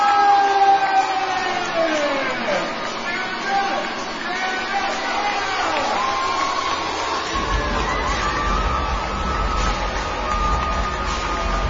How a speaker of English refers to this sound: People, that's a church! And did you hear the applause? It was deafening.